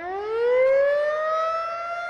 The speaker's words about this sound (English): It's the kind of sound no one likes to hear, but that people want to hear, a tornado siren.